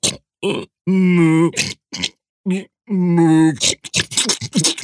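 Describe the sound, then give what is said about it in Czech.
Loud, throaty snoring of a dragon sleeping on a narrow rock ledge at night, voiced by a person: a string of rumbling grunts and groans, some drawn out and others short and choppy, with brief gaps between breaths. “Rozvaloval se na římse a chrápal jak nachlazená kráva.”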